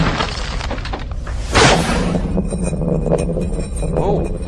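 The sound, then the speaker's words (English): Bowls, including a candy bowl, get knocked over and break in one sudden, loud shattering crash, followed by a faint clatter of pieces over a steady noisy background. “Knocking bowls over. The candy bowl.”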